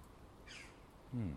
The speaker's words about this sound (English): Crows are on the go.